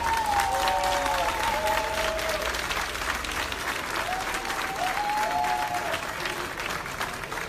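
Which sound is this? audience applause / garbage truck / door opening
audience applause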